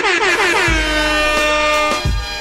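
A loud, blaring air horn sound effect sounds continuously for a couple of seconds, its brassy tone bending slightly at the start, with a few heavy low thumps punctuating it.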